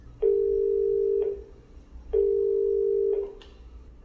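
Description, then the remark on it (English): A telephone ringback tone of a call to Northern Ireland on 24 July purrs twice, each steady ring lasting about a second with a pause between, heard clearly over a quiet line, and a click comes at the end. “and I spoke to him over the phone on the 24th of July while he was out judging the Northern Ireland Oat Competition.”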